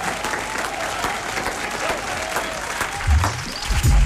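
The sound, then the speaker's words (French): A steady burst of crowd applause for a correct answer in a music quiz, many hands clapping in a dense, even patter throughout, with a few louder low thumps and murmurs near the end. “Bonne réponse, applaudissements.”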